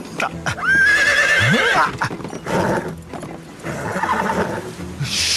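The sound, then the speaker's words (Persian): A war horse lets out a loud, high-pitched whinny that wavers and then drops away, followed by snorts, shuffling hooves and restless movement. “اون یه اسب جنگی خرفته نه یه سگ تازی باهوش. قبل از اینکه شیه بکشه بجم.”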